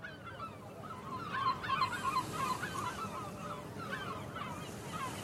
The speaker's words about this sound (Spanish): Cuando Leonard Simon parte para una acción de Jugendrettet desde Barcelona, le acompañan los sonidos de las gaviotas y los vencejos. Vuelan en círculos por las estrechas calles de la ciudad histórica.